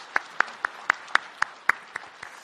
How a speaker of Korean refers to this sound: 박수로 환영하시겠습니다.